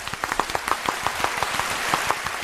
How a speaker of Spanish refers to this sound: Venga, un aplauso.